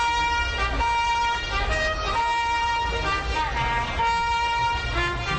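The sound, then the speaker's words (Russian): The hejnał trumpet call, played daily at 11:15 from the clock tower of the Royal Castle in Warsaw's Old Town, sounds a slow melody of sustained, bright notes over a steady rumble of street traffic, with faint crowd voices mixed in. “В Варшаве, в старом городе, или по-польски на Старувке, на часовой башне Королевского дворца каждый день в 11:15 играют хейнал, сигнал трубача из мелодии песен на польской столице.”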